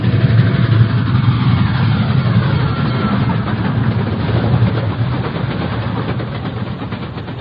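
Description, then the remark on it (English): An approaching train on the tracks roars loudly and continuously, a dense rumbling wash of engine noise with faint rhythmic clatter, staying strong throughout with no voices. “Then, dimly, I can make out an approaching roar. Another train heading right for me.”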